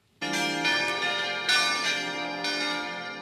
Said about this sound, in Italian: Il rintocco delle campane dal via alla messa.